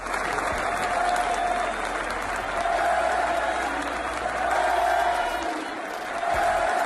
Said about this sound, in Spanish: Es la afición del Betis aplaudiendo y coreando el nombre de Leo Messi en su estadio, ¿eh?, en el Benito Villamarín, después de un gol de auténtica locura, maravilloso